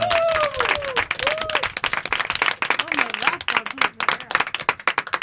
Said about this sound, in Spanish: Además es que has dado un aplauso, ¿eh? Un aplauso.